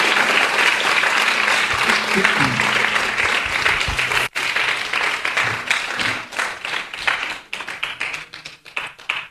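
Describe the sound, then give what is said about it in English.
A crowd at a Sri Ram Navami festival applauds Champaklata Mataji and the devotees. The clapping is a steady, dense wash that holds loud for several seconds, then thins into scattered individual claps as it tapers off. “Okay, so let's just give another round of applause to Champaklata Mataji and all the wonderful devotees.”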